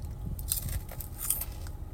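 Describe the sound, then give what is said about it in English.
Someone crunches a chip with two sharp, crackly bites and steady chewing in between, at moderate volume. No one speaks. “Another chip.”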